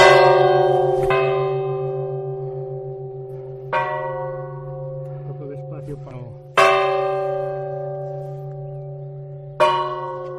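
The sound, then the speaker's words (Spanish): Church bells ring out from a bell gable in the village of Perilla de Castro on a Sunday morning, with strong, resonant strikes every few seconds, each tone lingering and overlapping as a deep hum sustains underneath; a faint murmur of activity drifts in between strokes. “Las primeras campanadas sobresaltan en la mañana del domingo a algunos habitantes de Perilla, que se acercan mirando hacia la espadaña a ver qué es lo que ocurre.”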